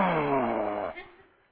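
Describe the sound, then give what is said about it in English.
A voice imitates the ocean's low rumble with a drawn-out, wavering tone that slowly sinks in pitch, then trails off into a soft, fading rumble after about a second. “You know, it's this low kind of, you know, vacillating, reverberating kind of sound. I chose the word rumbling.”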